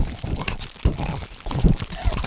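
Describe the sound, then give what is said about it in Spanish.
Irregular crinkling of a crumpled plastic bag mixed with wet mouth clicks and pops, together imitating the crackle of a fire in a steady, busy stream of small bursts. “Esto es un gilipollas haciendo ruido con la boca y una bolsa de plástico, ¿no?”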